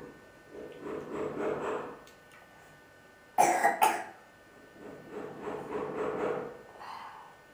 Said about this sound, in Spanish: ¿Quieres agua, cariñito? ¿Para qué? Para que se te vaya la tos. Para que se te vaya la tos. Tos, tos, tos.